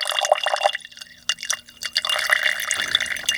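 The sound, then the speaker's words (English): Fluid still carrying pigment is poured off into a different jar, a steady splashing trickle with small drips and gurgles that rises and thins over a few seconds, with no talking. “All the fluid that's still kind of floating around with pigment, I'm going to pour that into a different jar and save it.”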